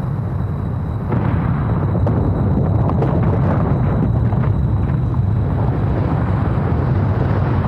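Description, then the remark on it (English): A deep, continuous rumbling roar of glacier ice the size of a US Navy aircraft carrier calving into the ocean from a 300 to 400 foot face, with sharp cracks and crunching bursts breaking through a heavy low-frequency thunder that swells after the first second and holds steady. “That's what you're hearing, is the calving.”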